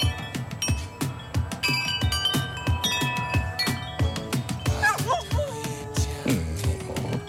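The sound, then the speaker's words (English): Bright, ringing wind chimes tinkle continuously and unevenly while a big fluffy dog lets out a wavering, rising-and-falling howl along with them partway through, blending with the metallic tones. “It's a dog that can howl with wind chimes.”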